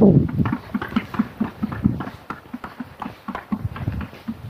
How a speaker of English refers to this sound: Those are not woodpeckers, those are roofers. I don't know if you can hear them, but you probably will before I get by the house. I've got the roof tore off, and they're laying down fresh tarp paper.